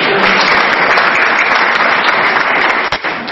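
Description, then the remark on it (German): Steady audience applause fills the whole stretch, a dense, loud crackle of many hands clapping at once, with no break and a slight dip near the end. “Ich war gar nicht auf Beifall, sondern ich wollte sagen, als ein kleiner Dank für das, was ihr alles für mich tut.”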